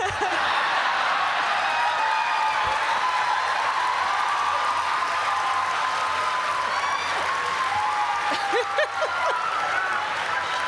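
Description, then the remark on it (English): A crowd claps together in a dense, steady wash of hand claps that runs the whole length, with scattered whoops and murmuring voices mixed in. “We're doing the clap.”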